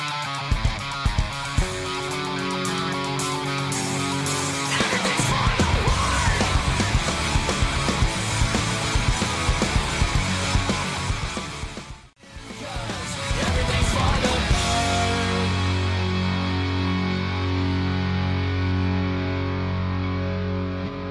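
A loud pop punk song with crunchy distorted guitars and pounding drums plays throughout. It cuts out for a split second midway, then comes straight back in at full force.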